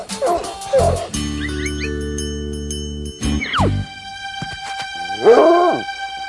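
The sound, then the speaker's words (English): Warden Stormshackle's dog, tracking escapees, gives a few short barks and a rising, whining whimper, in separate bursts with pauses between them, over a steady droning musical tone and faint high tinkling. “Warden Stormshackle, his dog's tracking us!”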